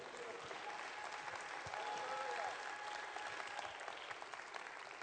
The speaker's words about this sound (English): Give the Lord a big clap, please.